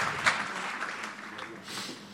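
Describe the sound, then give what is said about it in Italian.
A church audience applauds for the King (God) as they rise in God's presence, a dense crackle of many hands clapping at a fairly even loudness for about two seconds, with a faint murmur of voices mixed in. “Facciamo un applauso al Re e ci alziamo nella presenza di Dio.”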